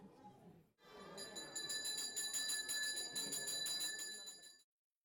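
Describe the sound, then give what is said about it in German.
Small temple bells ring rapidly and continuously during a Hindu worship ritual, a bright metallic jingle with sustained shimmering tones, steady for several seconds over a faint murmur of background activity. “Das Läuten der Glocken soll die schlechten Dämonen vertreiben.”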